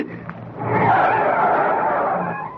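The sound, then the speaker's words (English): A car on a highway skids and overturns, burning; its tires screech loudly and steadily for about two seconds, rising quickly and holding steady before tapering off, with no voices. “On the highway, just ahead of them, the car that had passed them overturned, burning.”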